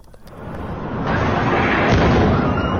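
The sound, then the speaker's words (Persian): A loud, sustained roar of explosions and fire, from a fire at the Sina Mehr surgical center in Shemiran, north Tehran, on an evening, with oxygen and helium cylinders exploding. It builds over a few seconds, with heavy booming bursts rising out of the continuous rumble. No one speaks. “انفجارهایی که شامگاه 10 تیر 2 سال پیش شمال تهران را لرزاند.”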